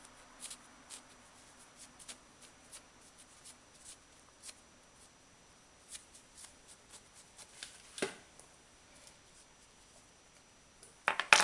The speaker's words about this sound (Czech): to tady musím trošku utřít, protože je to zablencaný klíč.